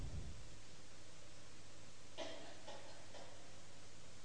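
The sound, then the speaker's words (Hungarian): Three quick papery rustles in a row as Bible pages are turned to the Letter to the Galatians, soft against a steady background hiss, with no one speaking. “Ellapozunk a Galata levélre.”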